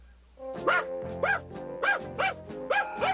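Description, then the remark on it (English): A dog barks about six times in a quick, steady rhythm, each bark short and sharp with a bright, ringing tone, fairly loud, with no talking. “And now it's changing to bark.”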